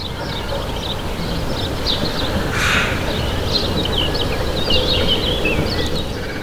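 Outdoor park ambience with a steady low rumble of traffic, scattered bird chirps throughout, and crows cawing now and then.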